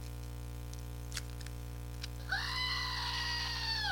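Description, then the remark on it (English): A screaming goat toy gives a steady harmonic scream like a goat's bleat that starts partway through and holds loud and electronic-sounding to the end, preceded by a couple of faint clicks over a low hum. “That's my screaming goat toy.”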